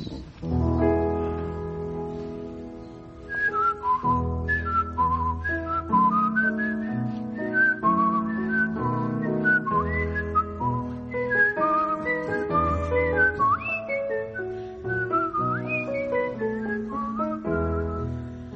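Someone whistles a bright, flowing seasonal carol melody, clear, over a steady instrumental accompaniment for the whole stretch, with no talking; the carol is partly whistled and partly sung.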